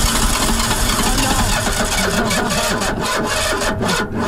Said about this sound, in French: Bon, c'est quoi ? C'est la voiture volée qui a plus d'essence. Je croyais qu'il avait calé.